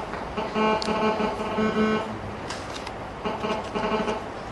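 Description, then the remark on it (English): A phone rings during a lecture with a buzzy electronic tone, rich in harmonics, pulsing in repeated bursts of about half a second, fairly loud against a steady background hum. “Is there another mic on or a phone on or something? Phone is on.”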